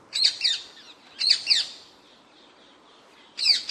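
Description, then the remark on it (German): A non-native bird, of a species that escaped from Cologne Zoo in the 1970s, calls in three separate bursts, each a pair of harsh, high-pitched chattering squawks, with short quiet gaps between them and no talking. “Und der Vogel klingt so.”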